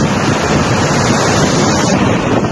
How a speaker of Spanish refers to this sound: En el barranco de Tirajana, la presa ha empezado a aliviar miles y miles de metros cúbicos de agua.